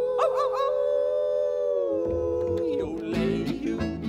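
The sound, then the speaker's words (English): A long, wavering wolf-like howl from a human voice, held steady and loud, with strummed instruments and percussion joining toward the end. “We're gonna hoot and holler and howl at the moon.”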